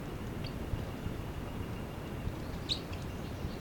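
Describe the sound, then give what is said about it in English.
A bird, identified as bird 306, gives a short, high chittering call, with a faint blip early on and a brighter burst near the end, over a steady low rumble of background noise. No one speaks. “The chitter by 306.”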